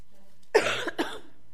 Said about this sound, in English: No, I apologize for my little coughing attack.